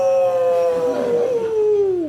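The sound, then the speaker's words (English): A person imitates a wolf howl: one sustained, loud vocal tone held steady for about two seconds, then sliding downward as it fades out. “Is that why you booked me? For the wolf noise?”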